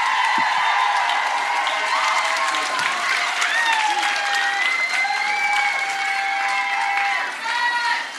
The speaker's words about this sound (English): So thank you. Give thank Greggy you. A round you guys. Of applause.